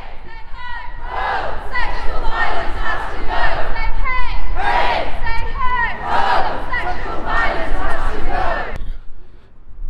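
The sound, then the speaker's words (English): A large protest crowd on the Edinburgh University campus in Bristow Square shouts and chants together outdoors, many voices overlapping in a loud, continuous roar, until the noise cuts off abruptly near the end. “Okay, so I've just arrived at the protest. We're in Bristow Square, a much bigger crowd than I had expected actually.”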